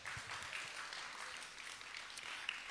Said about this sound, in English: The blacker the berry, you better say it, the sweeter the juice. Clap for that. Come on.